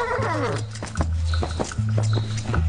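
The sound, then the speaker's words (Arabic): A horse walks at an even pace as it is urged on, its hooves clopping in a steady rhythm over a low droning hum, with a brief descending animal cry at the start. “هيا أيها الحصان.”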